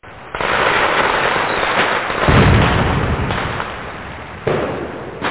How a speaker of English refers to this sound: For those on YouTube, we're playing fireworks right there on Open Talk Radio. So the fireworks have exploded here.